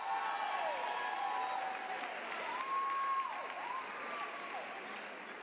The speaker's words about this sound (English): Come on, y'all, clap your hands and make some noise for our mother as she comes.